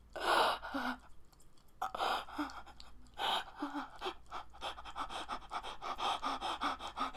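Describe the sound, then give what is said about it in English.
Heavy, breathy panting, starting in separate loud bursts with short pauses, then quickening into a steady run of rapid breaths. No speech is heard. “My breathing getting faster.”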